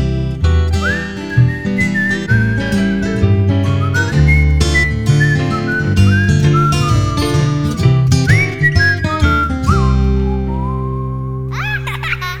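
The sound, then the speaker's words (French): A grandfather whistles a lively, wandering tune, sliding between pitches over a steady instrumental backing with rhythmic beats, ending in a few quick rising swoops. “Ça te fait rire quand papé siffle.”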